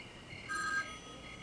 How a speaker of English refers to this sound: Oh, Trevor, pick up the phone. Pick up the phone.